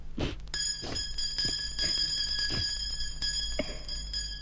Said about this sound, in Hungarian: Már a második terítés, ezt csengetnek. Gyerünk enni